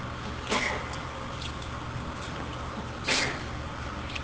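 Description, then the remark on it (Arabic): Two short, sharp sneezes burst out about two and a half seconds apart over a steady low hum, each a brief breathy blast with no talking in between. “رحمك الله.”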